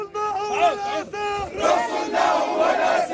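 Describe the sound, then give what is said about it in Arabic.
Thousands of people march from the Al-Aqsa Mosque compound in Jerusalem toward Damascus Gate after Friday prayer, chanting loudly in unison in support of the Prophet Muhammad, voices rising and falling in rhythmic, harmonic bursts, with a brief pause before a broader, denser roar of many people shouting together. “في ساحات المسجد المبارك احتشد آلاف المواطنين بعد أداء صلاة الجمعة لينطلقوا في مسيرة باتجاه باب العمود عنوانها إلا رسول الله.”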